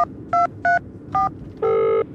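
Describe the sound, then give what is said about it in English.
A phone keypad beeps as a number is dialed to call someone back: several short, clear tones at an uneven pace, followed by a longer final tone, fairly loud with no one speaking. “Here's my phone. Call her back.”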